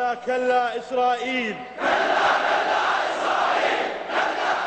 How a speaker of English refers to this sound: His followers, mainly young, poor Shia men, roar in approval.